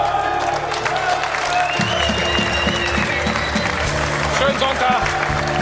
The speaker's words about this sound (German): Applaus.